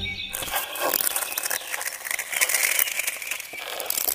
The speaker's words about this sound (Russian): Слышали? Это лед треснул? Да, чем теплее будет становиться, тем больше будет такого треска.